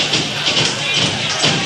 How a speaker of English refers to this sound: You can stomp your feet, you know. Once you get around, we want to see you do it.